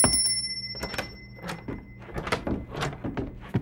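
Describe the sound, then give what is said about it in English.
A tiny dinner bell, taken from a cupboard and rung to call people to supper, gives a bright, high ring at the start that fades over a couple of seconds, followed by a run of clattering knocks and thumps. “Maggie took a tiny dinner bell from the cupboard.”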